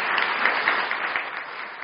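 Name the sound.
audience applauding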